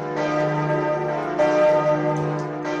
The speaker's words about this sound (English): The sound of the eight bells in the northern belfry